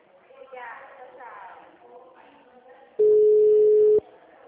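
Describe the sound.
A single loud, steady telephone tone sounds for about one second, like a call connecting, after quieter talking in the background.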